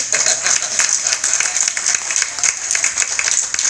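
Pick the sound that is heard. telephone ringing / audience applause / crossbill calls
audience applause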